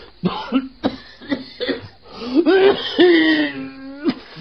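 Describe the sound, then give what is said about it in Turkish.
A man coughs repeatedly in a rough, hacking fit, several sharp bursts followed by strained, wheezing vocal sounds, fairly loud with no talking. “Bak öksürüyorsun.”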